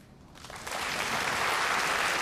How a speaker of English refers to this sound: Clap if you knew your person 5 years or less.